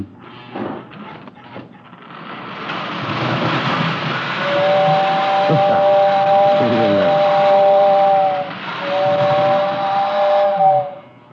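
A steam locomotive lets off a loud, steady hiss of steam, then its whistle sounds in two long, mid-pitched blasts with a short break between them, fading out at the end.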